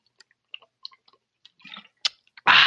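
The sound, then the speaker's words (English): Wet mouth sounds of someone taking a big swig of water: scattered small clicks and gulps, a louder swallow near the end, then a sharp breathy exhale. “Now, I'm going to have to take my usual big swig of water.”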